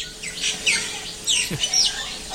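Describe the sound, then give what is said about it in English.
A noisy chorus of tropical birds calling over one another, with shrill whistles, sweeping chirps and squawks overlapping continuously, fairly loud, no voices present. Heard in Sri Lanka; one loud bird is likened to the Radio Maldives interval signal. “Good gracious, those tropical birds are making a bit of a row.”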